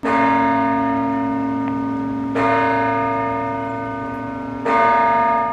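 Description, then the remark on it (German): A church bell strikes the hour three times at a slow, even pace, each loud stroke ringing out and overlapping the long resonant hum of the one before, with no talking. “Zu jeder Stunde aber wird das Rauschen plötzlich übertönt.”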